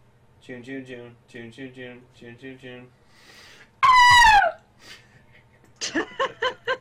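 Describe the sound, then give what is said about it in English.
A woman screams in terror: one loud, high-pitched shriek lasting under a second and sliding downward in pitch, set between short bursts of voices talking before and after. “Speaking of women screaming in terror.”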